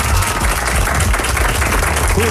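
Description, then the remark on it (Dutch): Dense, steady applause from an audience welcoming a crime journalist as a guest on a Dutch 538 show fills the whole stretch, a loud continuous wash of clapping with faint voices mixed in underneath. “Groot applaus voor Albert van Stegenman!”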